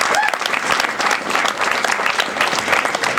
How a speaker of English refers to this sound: Learning how to stand up and accept applause.